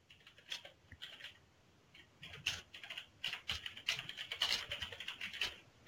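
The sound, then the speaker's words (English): Rapid, uneven clicking of keys on a computer keyboard while logging in to a management portal website, with a steady run of light taps and short pauses, fairly quiet, no voices. “And it's probably worth noting that at this point, I could be typing in my normal company domain name here.”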